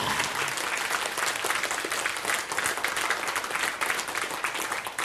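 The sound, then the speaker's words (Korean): A crowd bursts into steady applause, a dense wash of many hands clapping at an even, fairly loud level for the whole stretch, with no voices standing out above it. “하나님이 일곱째 날을 뭐요? 복 주사. 박수.”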